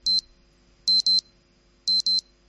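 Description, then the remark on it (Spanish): A phone wake-up alarm beeps in short, high-pitched electronic bursts, first a single beep, then two quick pairs, loud with nothing else around it. “Que es la alarma, de cuando te despiertas, es la alarma más común, pero bueno, cada uno tiene la suya, pero suele ser de los sonidos más odiados por las personas, las alarmas de los teléfonos, pues, etcétera.”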